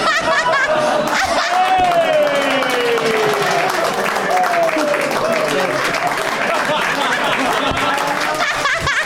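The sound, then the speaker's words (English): A crowd claps steadily and loudly for the whole stretch, a dense unbroken wash of applause with voices whooping and laughing over it. “That's how the episode ends, was like 7 minutes of clapping.”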